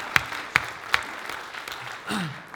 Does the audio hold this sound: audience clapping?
yes